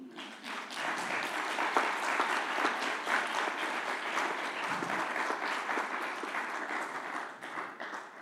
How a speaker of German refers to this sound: Bekommen diese Worte Jesu einen Applaus oder nicht?